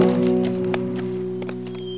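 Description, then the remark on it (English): A handful of soft, irregular hoof clops thin out as a horse with its rider rides away, heard over a steady low droning tone that holds throughout. “Smiley turned his attention back to the cattle as Brown rode away.”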